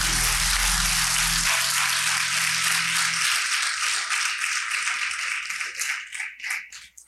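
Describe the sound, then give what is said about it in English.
An audience claps together for the word of the Lord after a prayer, in a dense, steady wash of applause, with a low sustained tone under the first few seconds; the clapping thins into scattered claps at the end. “Clap your hands for the word of the Lord.”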